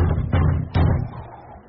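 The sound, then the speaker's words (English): A few heavy, dull knocks on the wooden door of a rotting timber cabin with a tar paper roof, in snow, spaced slowly apart, each with a low booming thud that rings out briefly before fading into quiet. “I'll knock.”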